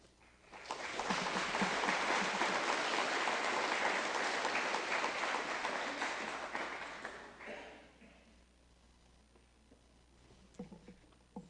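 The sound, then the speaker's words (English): An audience claps steadily for about seven seconds for a speaker who has just stood up, a dense crackling wash that swells quickly, holds, then fades out, leaving a few scattered claps and quiet background noise. “I stood up real quick so you could clap for me twice.”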